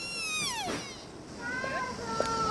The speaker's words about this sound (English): Some of these deer are making these strange sounds. Sounds like a baby crying. Listen to this. I didn't know deer made that kind of noise.